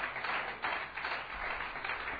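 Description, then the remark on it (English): An audience claps hands in worship to Jesus, a dense, steady wash of many overlapping claps with no clear individual beats, holding at an even level throughout without voices. “Clap your hands to Jesus and worship Him.”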